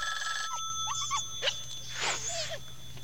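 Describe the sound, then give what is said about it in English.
A telephone in the next room rings with a steady, high electronic tone that sounds slightly distant. Brief squeaky whines and chirps break in over the ringing. “He looks at the phone ringing in the next room, then back at the dogs.”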